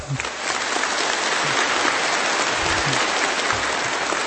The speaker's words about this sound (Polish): Brawa dla naszego zespołu. Swoim śpiewem będą nam towarzyszyć podczas naszego dzisiejszego modlitewnego spotkania. Ja za takie brawa bym nie śpiewał, a zatem głośniejsze brawa.